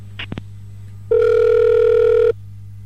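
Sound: telephone line tones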